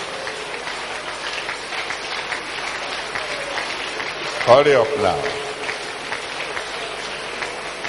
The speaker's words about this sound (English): Keep clapping. You're clapping for Jesus. You're clapping for Jesus.